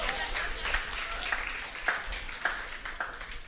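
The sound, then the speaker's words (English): A crowd applauds themselves after singing, a steady dense wash of many hands clapping at moderate volume with a few sharper claps standing out, lasting a few seconds without letting up. “Clap for yourself, you know how to sing.”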